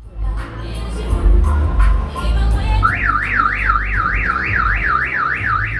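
A car alarm starts up partway through on a narrow street lined with heavily gated row houses in Barrio Westmoreland, North Philadelphia, startling a woman walking past; its loud siren sweeps up and down in a steady rapid wail over a rumbling street background.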